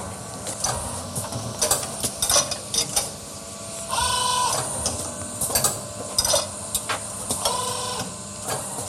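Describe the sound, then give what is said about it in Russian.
A robotic assembly line at work as a robot assembles a pneumatic cylinder: whirring servo motors, clicks and clacks of parts being placed, and two sustained buzzing motor runs, all mechanical with no voices. “Далее робот собирает пневмоцилиндр.”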